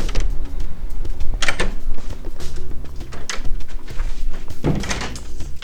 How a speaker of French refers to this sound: Voilà, je suis devant. C'est là où on va découvrir un métier aujourd'hui, cordonnerie. C'est marqué sur la porte. La porte que je pousse.